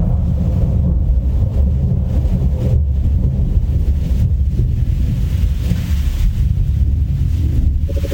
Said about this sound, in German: Nur der Wind, nur der Regen zieht gelassen durch die Nacht.